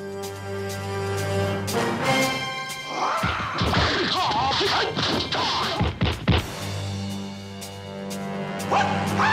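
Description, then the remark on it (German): A rapid flurry of hard punches and sharp slaps, made by a foley artist in Munich as staged fight sounds, bursts out over a steady droning musical tone, then stops as the tone carries on. “Meistens sind es Schlägereien oder Ohrfeigen.”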